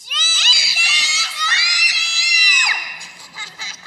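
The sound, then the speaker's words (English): Three people shout "Jesus loves you" together at the top of their lungs toward the parking lot in one long, strained yell lasting a couple of seconds, loud, before it breaks off into quieter scattered noise. “Okay, would the three of you at the top of your lungs yell to the parking lot, Jesus loves you?”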